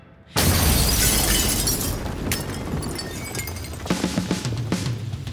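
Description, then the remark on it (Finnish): A sudden loud explosion at a house late in the evening bursts in, followed by a sustained crash of windows shattering inward and debris, with several sharp smaller impacts and tinkling glass fragments toward the end. No one speaks. “Yhtäkkiä kuuluu kova pamaus. Ikkunat räjähtää sisään ja lieskat alkaa nolla taloa.”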